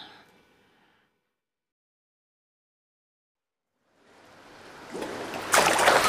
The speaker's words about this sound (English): Wow, that was a big splash